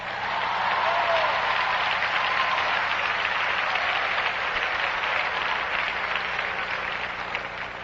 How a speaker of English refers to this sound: Clap loud.